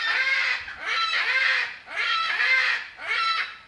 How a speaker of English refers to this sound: You're surrounded by these birds of prey, and behind us we have some crying. That's a young peregrine falcon. He's about 5 weeks old, bred not too far from here